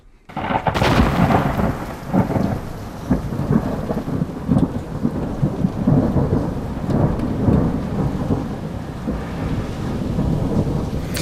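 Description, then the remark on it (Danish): Deep, continuous rolling thunder rumbles loudly for several seconds, with steady rain hissing underneath and no voices present. “Ja, vi slutter af på lyden af torden”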